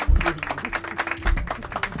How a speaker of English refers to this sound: Wait, and now I'm clapping. Damn, and that's G1. Even worse. Really? I'm not in control of the soundboard.